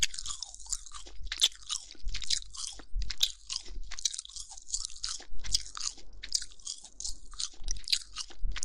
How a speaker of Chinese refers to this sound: 接下来我要嚼喽。听我嚼